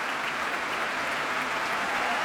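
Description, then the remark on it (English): Steady, dense applause at a dance performance as the orchestra's string section rises to its feet and is applauded by the dancers, a continuous wash of clapping hands at even loudness throughout, with no distinct voices rising above it. “A harp in the orchestra too, and now the strings rising to their feet and being applauded by the dancers.”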